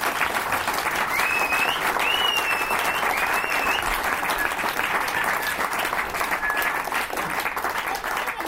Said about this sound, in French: Le courage que vous avez de venir la jouer sur scène comme ça devant tout le monde, ça, chapeau. Je voudrais qu'on les applaudisse encore plus pour ça.